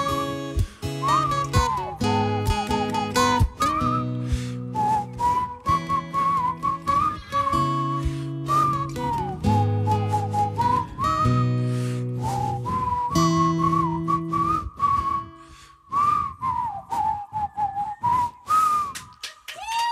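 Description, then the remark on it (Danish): People whistle a melody along with a live band, a clear, wavering tune over steady chords from instrumental backing, continuing for the whole stretch with brief pauses between phrases and no talking. “Fløjt lige sammen med os nu.”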